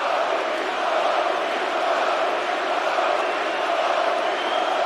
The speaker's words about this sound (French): Ouais, écoute-moi ce monde-là. En feu à Montréal. Là, c'est la nouvelle vedette, Jacob Dobesch, qui va s'amener. Regarde, on crie son nom.